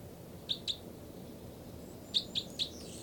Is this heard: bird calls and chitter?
yes